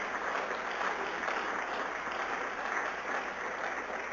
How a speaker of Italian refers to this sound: Facciamo ancora un applauso a Gesù, per favore.